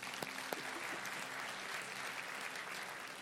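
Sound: audience hand clapping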